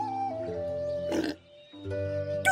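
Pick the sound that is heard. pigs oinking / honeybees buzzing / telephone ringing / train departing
pigs oinking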